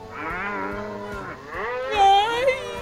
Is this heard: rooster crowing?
no